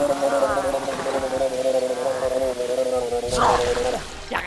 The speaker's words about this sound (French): À mon tour. Carapuce, pistolet à eau.